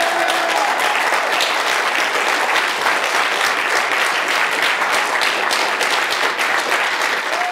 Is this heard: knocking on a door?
no